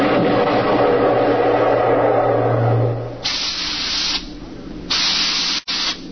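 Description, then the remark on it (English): A low droning rumble gives way to three loud bursts of hissing steam through a spaceship's steering tubes as it maneuvers to dodge enemy attacks, each a second or less, separated by brief pauses. “We could hear the desperate bursts of steam through the steering tubes as the Starfire maneuvered to dodge the enemy attacks.”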